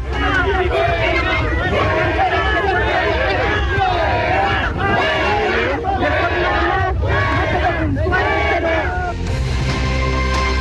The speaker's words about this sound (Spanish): Bien, ahí escuchábamos gritos de la gente que le decían al presidente Gabriel Boric que se fuera.